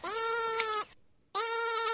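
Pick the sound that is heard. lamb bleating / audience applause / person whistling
lamb bleating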